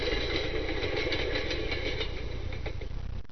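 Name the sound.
train passing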